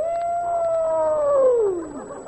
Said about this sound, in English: As I walk, the sound of the Arctic rings in my ear. That's it. And the mournful cry of a dead wolf.